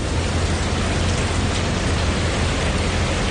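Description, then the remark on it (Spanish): Steady rain pours down in the city of Alicante, Spain, falling since early morning, in a dense, unbroken hiss that stays at an even, fairly loud level the whole time, with a low rumble underneath and no voices. “Las lluvias amenazan la cabalgata de los Reyes Magos prácticamente en toda la provincia de Alicante, también aquí, en la capital, donde se están cumpliendo las previsiones y está lloviendo desde primera hora de la mañana.”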